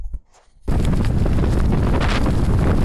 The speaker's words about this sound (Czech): Je strašný vítr, takže nemůžu nahrávat. Tak chcem vám to jenom pustit, ten hrozný vítr. Myslím, že to je fakt klidně 10-11 metrů za sekundu.